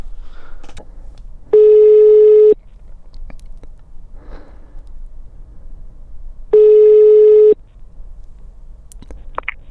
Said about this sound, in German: Wir wählen direkt mal ihre Nummer und schauen, ob sie da ist und hoffentlich auch rangeht und sich ihre Karten gleich schnappt.